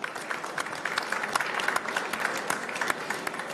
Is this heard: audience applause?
yes